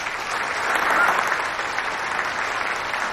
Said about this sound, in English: Won't you please put your hands together and give a big round of applause for the godmother of gingerbread herself, Ina Bruckner.